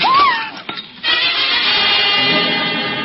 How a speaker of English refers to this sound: The jug. It's broken. The precious water is gone.